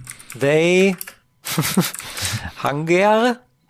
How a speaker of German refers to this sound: Müsste ich jetzt auch noch mal schnell hier, warte mal, meine Tastatur möge man mir entschuldigen.